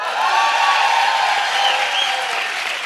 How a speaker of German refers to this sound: Mach nochmal eine Bodyroll. Wird der Applaus dann lauter? Ich ja, mach nochmal eine Bodyroll, dann muss der Applaus aber noch krasser sein.